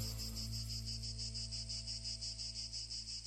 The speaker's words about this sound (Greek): Άφησα και λίγο τα τζιτζίκια να παίζουν παραπάνω, γιατί δεν υπάρχει καλοκαίρι χωρίς τζιτζίκια.